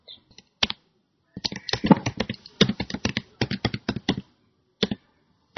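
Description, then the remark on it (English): Rapid computer keyboard typing by a woman typing a question, with irregular clusters of sharp key clicks, fairly clear, pausing briefly before a few final taps. “She's typing the question.”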